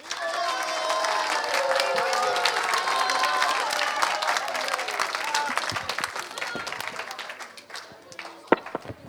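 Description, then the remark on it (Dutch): A group of children applaud loudly and steadily for André after a radio contact with the ISS: dense clapping mixed with excited high voices and cheers, fading toward the end with a few last scattered claps. “Alle kinderen, groot applaus voor André.”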